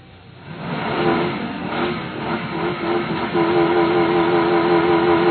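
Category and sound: vehicle, car engine starting up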